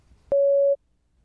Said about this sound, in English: Please prepare your answer after the beep.